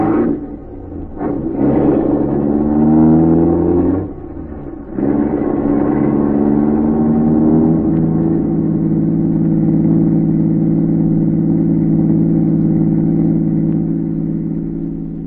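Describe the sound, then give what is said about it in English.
A car engine revs up loudly, surging twice in the first few seconds, then settles into a steady droning hum as the vehicle pulls away, fading only slightly at the end. “K-9 watched the car as it pulled away.”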